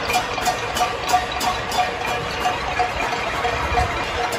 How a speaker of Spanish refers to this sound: Aunque este sonido se asemeje al que puedan producir los cencerros de las vacas, lo cierto es que se trata de las caceroladas que nos acompañaron durante varias semanas a unas determinadas horas, cuando solo se podía salir al balcón a eso